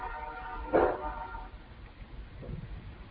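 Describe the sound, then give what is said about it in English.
A train horn blows on the railroad track just behind the listeners, one sustained, brassy blast that swells briefly, then fades out after a second or so, leaving faint background rumble. “And now the great conch shell is blowing on the railroad track behind us, so we'll wait one second here.”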